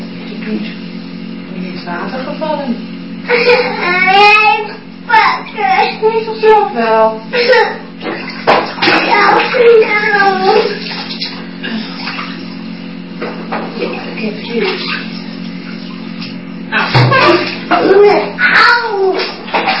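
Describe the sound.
Steady hiss of running water, like a shower spraying, fills the whole stretch while a young child babbles and talks over it.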